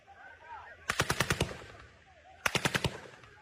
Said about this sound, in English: they could identify live ammunition, including machine gunfire, coming from the sites, in most cases within 50 to 60 meters of the camera's microphone.